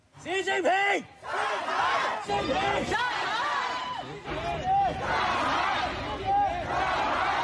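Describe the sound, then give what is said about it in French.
A protest crowd chants and shouts slogans hostile to the regime and its leader in loud rhythmic bursts, many voices rising together in repeated slogan-like cries, with overlapping yells and a steady roar of voices throughout. “qui pour la première fois depuis 30 ans réclament la liberté de façon plus générale et qui, chose jamais vue, enfin Marie Holzmann nous le dira ou pas, osent des cris hostiles au régime et à son chef.”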